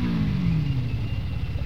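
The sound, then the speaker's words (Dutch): A motorcycle engine rumbles low and steady during a demonstration ride, its pitch sagging slightly as it settles toward an idle, with no voices over it. “Waarom rij je met de motor mee?”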